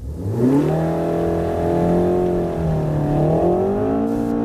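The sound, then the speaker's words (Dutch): A Renault Megane RS Trophy R engine revs steadily, its harmonic drone holding a mid pitch, dipping briefly and then climbing again. The sound is loud and continuous with no talking. “Maar ja, de Renault Megane RS Trophy R, gewoon leuk.”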